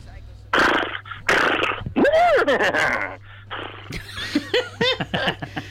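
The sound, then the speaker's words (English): A person imitates a horse neigh with their voice, a series of loud, wavering, pitch-swooping whinnies and snorts lasting several seconds, with a low hum underneath. “So maybe could we have a listen to your horse?”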